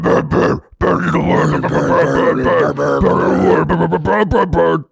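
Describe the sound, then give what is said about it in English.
A voice imitates a Norwegian surfing death metal growl: a loud, raspy, guttural roar held for several seconds, broken by a couple of brief pauses, with a low, strained, gravelly tone. “The classic is a sort of nightmarish growl.”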